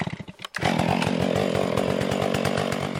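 A chainsaw sputters briefly, then roars up into a loud, steady, buzzing whine that holds for a few seconds as it cuts into a tree killed by bark beetles, in a national monument managed by the Forest Service. No one speaks.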